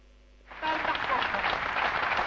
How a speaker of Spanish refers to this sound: ¿Ves? ¿Cómo aplauden las multitudes? ¿Cómo aplauden?